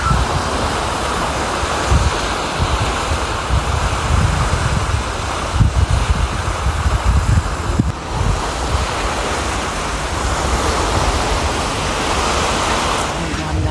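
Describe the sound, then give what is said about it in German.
Steady rushing of ocean water below, heard from the balcony of a cruise ship cabin, a broad continuous wash with gusts of wind buffeting the microphone, fairly loud and unbroken, with no voices. “Aber wir haben das auf jeden Fall sehr genossen, dass wir eine Balkonkabine haben. Ja, und wie sich das anhört, das hörst du jetzt.”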